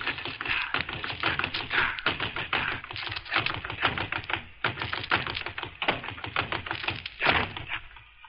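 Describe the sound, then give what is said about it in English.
Rapid, rhythmic thumping of a punching bag hit by a 24-year-old composer exercising in a home gymnasium in a New York penthouse overlooking the Hudson River, a steady stream of quick sharp blows rattling along without pause, fairly loud, with no voices. “I was just punching the bag and...”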